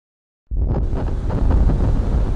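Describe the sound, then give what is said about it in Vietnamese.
A bitterly cold wind starts abruptly after a brief silence and keeps blowing hard and steadily: a loud, rumbling gust heavy in the low end with a rushing hiss on top, and no voices. “Đã lạnh đến thấu xương lại còn thêm mưa gió nữa.”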